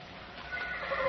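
A horse gives a short, wavering whinny lasting about a second, fairly quiet, with no voices over it.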